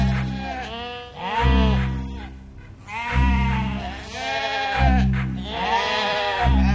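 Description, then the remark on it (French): Several sheep bleat loudly, their wavering, nasal cries overlapping in a continuous chorus over a low steady hum. “Ses frères, ses sept frères, s'étaient transformés en sept moutons.”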